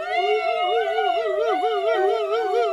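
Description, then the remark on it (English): A crowd of people sitting up with eyes closed wails together as loud as they can in imitation of a police car siren. The overlapping tones rise and fall in a loud, continuous, wavering chorus. “first give me the sound of a police car”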